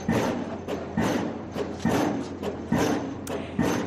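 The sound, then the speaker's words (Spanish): A huge pile-driving machine drilling the southern carriageway of the A5 in Madrid works steadily, pounding out heavy, booming thuds about once a second over a continuous rumbling mechanical roar. There is no talking. “1 inmensa máquina trabaja en estos momentos en la A5, una máquina pilotadora que está taladrando la calzada sur con un sonido similar a este.”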